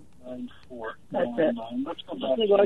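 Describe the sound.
A caller's radio plays in the background of a phone call, heard through a narrow, tinny telephone line, with talking voices coming through steadily and at moderate loudness, growing fuller after the first second.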